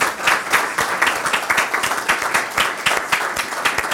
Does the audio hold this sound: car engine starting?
no